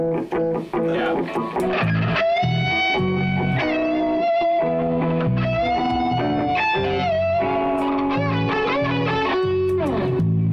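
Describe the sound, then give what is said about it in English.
A distorted electric guitar plays a sustained, singing solo melody over steady low bass notes, loud throughout with long held tones and gliding pitch changes. “I'm throwing some distortion on that solo line just so I can get the,”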